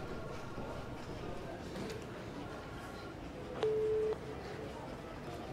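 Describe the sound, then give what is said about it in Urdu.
A telephone call being dialed: against a noisy room hum, the line gives a steady, fairly loud ringing tone lasting about half a second, and another tone starts right at the end. “میں اب انہیں فون کرتا ہوں.”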